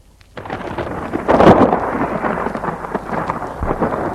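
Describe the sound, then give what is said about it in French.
A loud rolling thunderclap swells after a quiet start, peaking and then rumbling on steadily with a hiss of rain underneath; no one speaks. “Les éclairs, l'orage, montent son visage et ressemble à Jean-François.”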